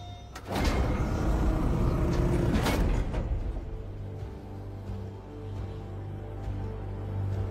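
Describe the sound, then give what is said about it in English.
Heavy doors slide open with a loud, grinding mechanical rush lasting a couple of seconds, then settle into a steady low rumble and hum. No voices are heard. “In the name of the Emperor, open the doors!”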